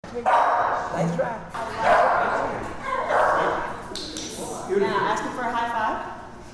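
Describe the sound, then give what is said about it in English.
Several shelter dogs in the Canine Cellmates jail dogs program at Fulton County Jail bark in repeated loud bursts spread across a few seconds, with a busy background and indistinct voices mixed underneath. “CCM, as the program is called, is in its fifth year of supporting inmates and giving shelter dogs a home.”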